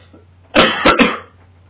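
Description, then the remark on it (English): A short burst of two or three rough coughs in quick succession, muffled, from a person with a lingering cough turned away from the microphone, with a low steady hum underneath. “That was me not coughing in everyone's ear that will ever listen to this.”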